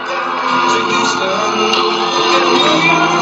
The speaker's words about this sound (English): The crowd's going in. And of course, that's what happens at any Trump event. So I've got to skip many minutes of cheering.